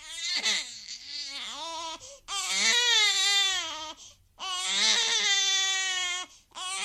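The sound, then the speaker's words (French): A baby cries loudly in long, wailing bursts, each rising and falling in pitch, with brief gasping pauses between them. No one speaks. “Oh yo, mon bébé, je t'ai fait du mal sans le savoir.”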